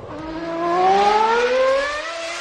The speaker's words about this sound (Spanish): Son los motores de los Fórmula 1 que en teoría tienen que circular y disputar el Gran Premio de Arabia Saudí el próximo domingo.